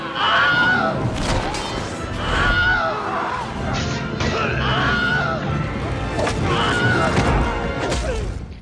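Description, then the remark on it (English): A Wilhelm scream stock effect rings out in a chaotic, loud film-battle mix, the yelps cutting through crashes, thuds and crowd shouting that continue throughout. “The Wilhelm scream is in all three Lord of the Rings movies and all three Hobbit movies.”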